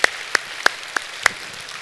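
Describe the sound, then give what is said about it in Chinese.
A church audience applauding members who have walked with the Lord for over 20 years, a steady wash of clapping with a few sharp, louder claps standing out, roughly every third of a second. No one speaks. “请坐，再一次掌声给他们。”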